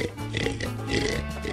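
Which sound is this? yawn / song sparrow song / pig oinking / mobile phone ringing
pig oinking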